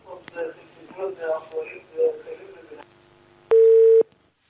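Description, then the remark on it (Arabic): A steady, loud telephone tone sounds for about half a second near the end as a call drops, following a stretch of muffled, crackly voices on a phone line from a caller in Jordan. “يبدو أن الاتصال انقطع أحبتي الكرام الأخيار.”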